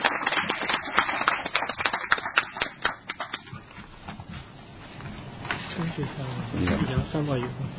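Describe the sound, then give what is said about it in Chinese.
A small group at a district council meeting applauds the newly elected chairman of the Traffic and Transport Committee with a quick, dense patter of claps that fades after a few seconds, then a voice begins speaking. “大家可以给掌声”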